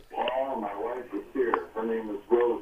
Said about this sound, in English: Volume down. You need to turn the TV down. I mean the radio down. Hold on. She's turning it down.